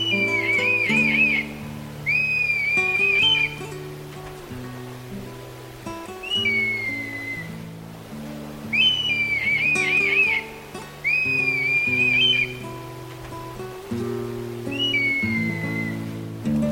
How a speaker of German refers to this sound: Das war der Rotmilan.